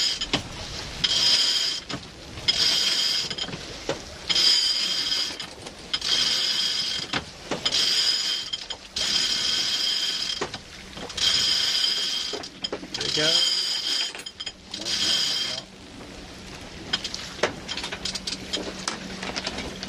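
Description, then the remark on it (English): A sailboat winch ratchets during a jibe in a narrow channel to Hanford Water, in repeated bursts of clicking, each lasting a second or two with short pauses between, loud, with wind noise and faint voices underneath. “Yeah, I'm just bringing it over.”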